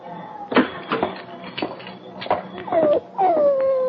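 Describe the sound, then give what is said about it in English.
A dog, Sam Park's dog that is being taken back to him, whimpers in a series of short, high whines, ending with two longer drawn-out whines that slide downward, heard clearly. “Hoppy, is this the dog?”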